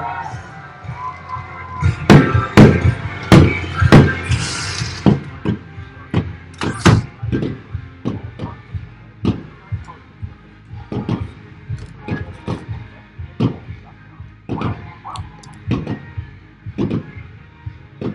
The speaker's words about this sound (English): We'll take a quick break while fireworks grace the stadium here in Fort Myers.